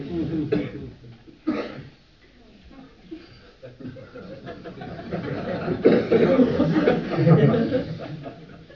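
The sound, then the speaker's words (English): Harsh coughing comes in fits: two sharp bursts early on, then a longer stretch of rough, choking coughs and wheezy, laugh-like sputters that grow louder toward the end. “This is your PC's cough.”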